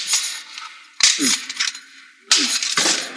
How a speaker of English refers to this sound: We'll crack that lock.